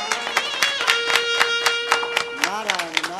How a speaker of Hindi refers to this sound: तनी ताली बजी।